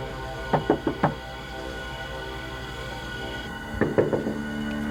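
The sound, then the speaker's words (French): A woman knocks on a front door in two separate bursts of about four sharp raps each, with a pause between them, over a low, steady background hum. “Elle s'est rendue à la porte d'entrée et a frappé.”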